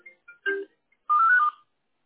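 A phone rings for an incoming call with a short electronic melody: a few quick chirpy notes, then a sustained warbling tone, fairly loud, with no voices.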